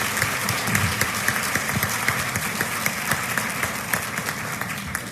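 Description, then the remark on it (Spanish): Sustained audience applause for the public at a book fair (Feria del Libro), a dense, steady wash of many hands clapping for several seconds with no voices over it, holding a loud, even level throughout. “Las muestras de solidaridad a la Feria del Libro fueron verdaderamente impresionantes en todas sus actividades y por ello yo quiero pedir un fuerte aplauso para todo el público que defendió esta feria en momentos complicados.”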